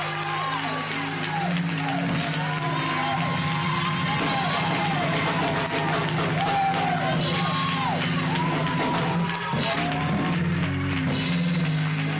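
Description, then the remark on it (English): A church audience at the Church of Jesus Christ House of Prayer claps and cheers continuously as the bishop is introduced, with many overlapping voices whooping and shouting over steady background music, a dense, lively crowd sound that stays loud throughout. “Let's listen with a holy hand clap.”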